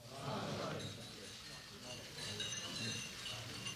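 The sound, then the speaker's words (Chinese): Many glasses clink together in a scattered, overlapping flurry of bright chimes, heard amid the low murmur of a crowd as people toast at once to Irish–American friendship. “为此我提议，为我们先辈开启的后代将传承的友谊，愿光明永远照耀着他们，干杯。”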